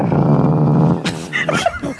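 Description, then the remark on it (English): At an auto show, a voice mimics the engine of a 1938 Alfa Romeo with a loud, low, rattling rumble for about a second, then breaks into sputtering bursts and a few brief squeaky, higher-pitched noises. “What sound do you think this car made when it used to drive down the road?”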